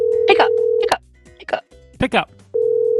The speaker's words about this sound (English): I do have all day, but I don't want to spend it listening to, ringing.